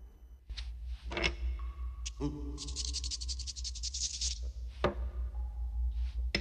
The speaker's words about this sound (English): Standing at a draftsman's table, Wallace flicks on an anglepoise light and stares at the blank sheet of paper in front of him. He looks thoughtful, then sharpens a pencil.